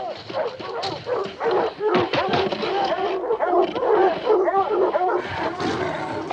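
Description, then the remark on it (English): Several dogs bark and yelp in a loud, overlapping frenzy as they break through a barricaded lodge door, the excited barking continuing without a break, with some whimpering mixed in. “the dogs break through the barricaded door”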